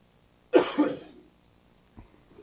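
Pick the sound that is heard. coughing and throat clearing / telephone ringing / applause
coughing and throat clearing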